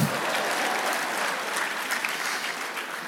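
An audience bursts into sustained applause, a dense, steady wash of many hands clapping at an even loudness throughout, with no voices rising above it.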